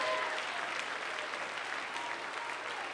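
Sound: audience applause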